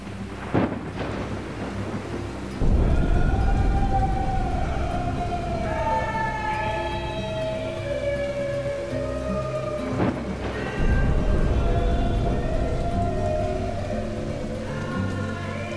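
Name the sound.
rain with thunder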